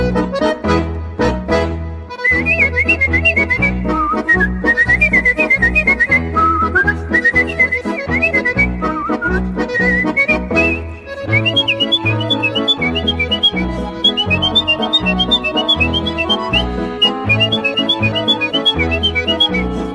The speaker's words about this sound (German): fange ich an mit einem Stück und danach lernen wir die Person kennen, die da so schön pfeift.